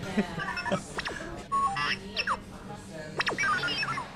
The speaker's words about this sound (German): Auf der Theke steht ein blinkender und piepender Roboter, in dem Star Wars-Kundige natürlich R2-D2 erkennen.